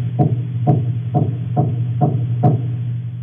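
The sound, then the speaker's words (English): Six evenly spaced low knocks, roughly half a second apart, each a short dull thud rising out of a steady low hum. Grey snapper larvae make them, and no one is speaking. “So this is a knock, as you call it.”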